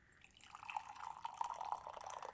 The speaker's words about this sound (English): Oh, listen to those frogs.